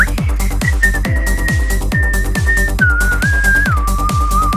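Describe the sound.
A person whistles a clear melody from an electronic dance track, sustained notes that step gradually down in pitch, carried over a steady, pounding electronic beat with no talking.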